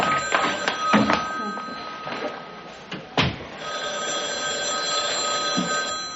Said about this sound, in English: Coach, your phone's ringing there. No, Cliff, it's in my head.